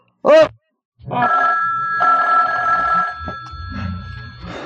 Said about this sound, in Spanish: El timbre telefónico interrumpe las visiones nocturnas.